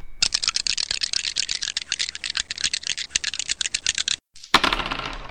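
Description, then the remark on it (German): Dice rattle and clatter in a rapid, dense stream of small clicks for about four seconds, then stop briefly before another short burst of tumbling clicks. “Was, jetzt am Sonnenrad drehen oder? Ja. Würfeln.”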